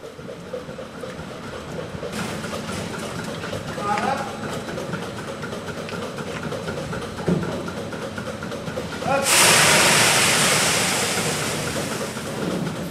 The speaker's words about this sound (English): So we're milking the cows here on Sunday morning. We start at 6 o'clock.